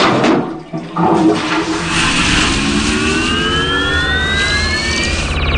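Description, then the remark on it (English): A loud, close toilet chain flush rushes and gurgles for several seconds, with rising whistling tones sweeping upward through the roar toward the end. No one speaks. “We're going to flush the chain on the count of three.”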